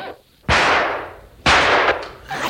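gunshot

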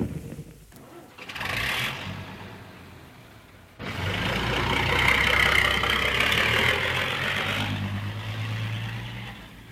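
car engine running

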